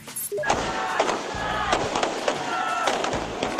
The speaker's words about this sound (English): There's a firecracker sounding as Sri Lankans in the capital of Colombo celebrated the end to the nation's 26-year civil war.